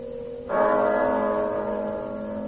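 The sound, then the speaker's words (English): A single church bell strikes once, loud, marking the hour of one, its deep, rich tone humming and slowly fading after the blow. No voices are present. “But as the bell sounded, light flashed up in the room.”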